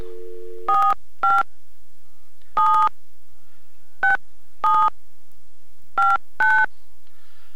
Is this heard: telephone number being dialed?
yes